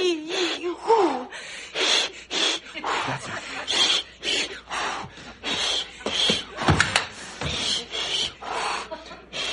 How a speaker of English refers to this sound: Honey, is this breathing making you dizzy? No. No, I think I'm doing it wrong.